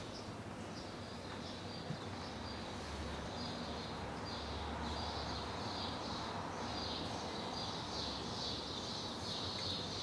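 A steady outdoor chorus of birds singing, with continuous high chirping and twittering layered over a soft low rumble, with no one talking.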